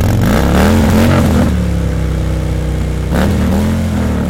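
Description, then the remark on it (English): A motorcycle engine revs loudly, rising in two throaty bursts with a steady rumbling idle in between. No one speaks. “Motorcycles have been a big part of Walker's campaign since his days as a county executive in Wisconsin.”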